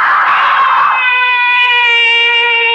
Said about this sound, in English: Why am I screaming? Just a dream. I'll stop screaming.